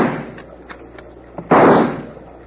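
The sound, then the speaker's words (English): Rifle shots fired by Bill Hickok from a rocking boat at attackers, to make them duck for cover: a few quick, faint cracks spaced apart, then one much louder shot that rings out and trails off over about half a second. No one speaks. “If Bill hadn't been shooting from a boat that's sunfishing like a locoed bronc, they might not be alive to duck.”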